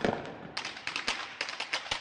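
A rapid, irregular string of sharp firecracker bangs, crackling one after another with no voices, the pops sometimes overlapping in quick bursts.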